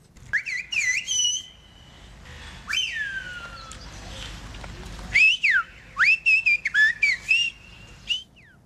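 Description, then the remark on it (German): Loud, piercing Silbo Gomero whistled language, used by people communicating on the island of La Gomera, with sliding, rising and falling tones in bursts and phrases. Short pauses separate the whistled segments, and no voices speak. “Am besten hören wir einfach mal rein, wie das tönt, wenn die Leute miteinander kommunizieren.”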